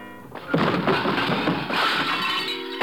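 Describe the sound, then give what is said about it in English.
A serving cart loaded with dishes, shoved towards a wall, crashes loudly, with clattering, smashing crockery that rattles on for a couple of seconds before dying away. “I give it a shove towards the wall and wait.”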